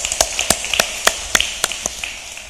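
Sharp, bright claps ring out at a fairly steady pace, about three per second, with a few softer ones scattered between, as a church audience applauds in praise of God during worship. The thin applause carries no voices and fades slightly toward the end.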